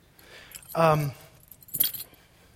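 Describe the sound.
A dog's identity tags jangle in a quick, bright metallic clink lasting under a second, following a short voiced sound; the rest is low, quiet background.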